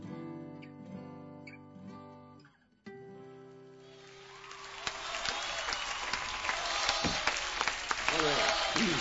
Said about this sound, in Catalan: Ovació, com diu aquell.